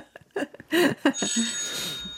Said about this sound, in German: oh, Ihr Handy, Frau Sollfrank, es hat doch noch mal geklingelt